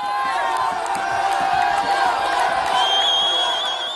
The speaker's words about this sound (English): In Gaza, crowds gathered to celebrate as news of the agreement emerged, including in Deir al-Balah in the southern Gazan Strip.